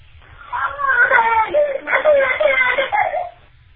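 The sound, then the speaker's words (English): A 12-month-old baby boy who cannot talk yet cries in fussy, whimpering bursts, fairly loud, with wavering pitch that rises and falls over a few seconds before trailing off. “that was obviously a baby crying”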